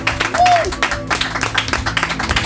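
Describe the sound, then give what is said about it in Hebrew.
A crowd applauds steadily throughout as a band's keyboardist is introduced on stage, a dense wash of many hands clapping at even loudness, with a brief rising whistle early on and faint voices mixed into the noise. “הרבה מחיאות כפיים.”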